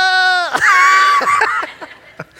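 A goat lets out one loud, piercing bleat that sounds almost like a human scream, strained and wavering for over a second before trailing off into a few faint clicks.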